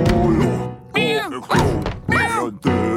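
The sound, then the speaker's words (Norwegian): Hard wooden thuds strike at an uneven pace, about five blows in three seconds, as someone bangs on a door with a stick, with voiced, wavering tones sounding over them. “Nei, han er og slår i døra med en pinne.”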